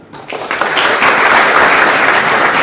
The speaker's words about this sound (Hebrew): יפה מאוד, יפה מאוד, כפיים.